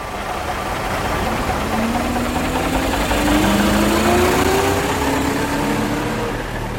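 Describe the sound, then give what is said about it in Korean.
A bus engine drones continuously, with a slowly rising mechanical whine riding over the low hum, as a city bus in Seoul runs or pulls away from a bus stop on a sunny Saturday morning. “무작정 버스 정류장으로 향한 뒤 가장 먼저 오는 버스에 올라탔다.”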